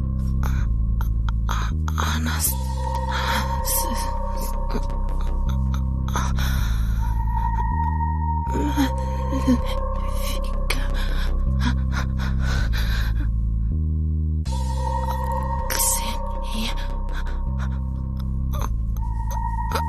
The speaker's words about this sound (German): Luft. Das Atmen fiel ihr schwerer, immer schwerer.